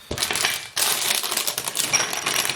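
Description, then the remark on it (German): Whole, unroasted California almonds crackle and rattle inside their ready-made packaging, a dense, bright crinkling that runs steadily with a brief pause before resuming just as busily. No one speaks. “Aber das knistert jetzt schön, ne?”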